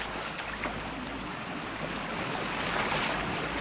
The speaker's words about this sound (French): Petite rivière qui passe, petit torrent, et tout autour, des murs de végétation.